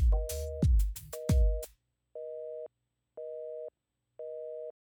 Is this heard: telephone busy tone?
yes